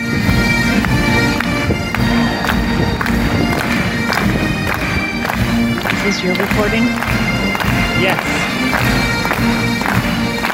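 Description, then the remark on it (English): A military pipe band plays the march Scotland the Brave at the Royal Military Tattoo in Edinburgh: bagpipe drones and a bright melody sustained over crisp, regular snare drum strikes, loud and continuous, while a couple of voices briefly talk over it. “So that's a little bit of Scotland the Brave from the Royal Military Tattoo in Edinburgh, which is the main reason we went on our vacation.”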